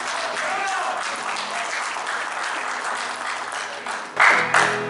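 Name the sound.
audience clapping hands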